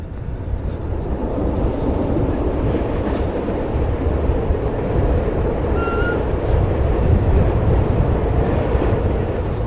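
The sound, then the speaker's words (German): A red-and-cream 1980s narrow-gauge Waldenburger Bahn train (75 cm gauge) rumbles and rattles steadily from Liestal into the Waldenburg valley, heard from inside the hot train with windows open, with a constant heavy low roar and a brief high metallic wheel squeal partway through; no one speaks. “Die rot-cremefarbigen Züge aus den 80er Jahren rattern von Liestal ins Waldenburgtal den Hof.”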